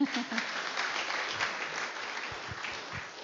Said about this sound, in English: So children, can you tell me, let's give him an applause.